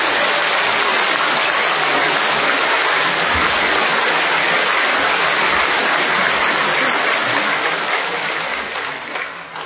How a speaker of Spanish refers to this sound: Por eso reconozco el trabajo del señor gobernador, de sus colaboradores, y por eso les pido que le demos un aplauso como el que se merece.